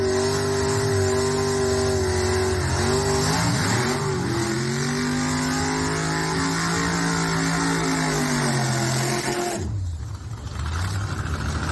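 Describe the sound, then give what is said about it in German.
Race car engines rev loudly and continuously during a warm-up, a deep droning roar with pitch sweeping up and down, cutting out abruptly near the end before another engine picks up. No talking. “Also das war noch kein Rennen, das war wirklich nur der Warm-up.”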